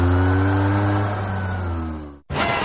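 A Vespa scooter engine revs loudly, a buzzing drone that sags slightly in pitch, cuts out for a split second, then roars back in.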